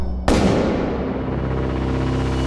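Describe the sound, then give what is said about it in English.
A single loud gunshot cracks out in a mansion after a brief pause, then its echo rolls through the halls in a long, dense reverberating rumble that barely fades. No voices. “A gunshot echoed through the mansion's halls.”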